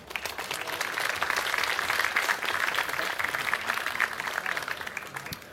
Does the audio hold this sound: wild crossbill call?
no